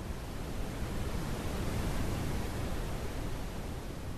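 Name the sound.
brown noise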